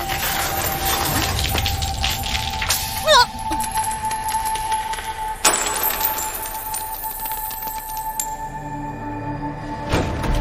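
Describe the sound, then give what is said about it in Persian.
The last metallic coins from a purse, handed over to someone, jingle and clink, with a brief cluster of drops standing out around a third of the way in, set against a steady background hum and noise. “اینجوری شد که آخرین سکه های تو کیفم هم بهش دادم.”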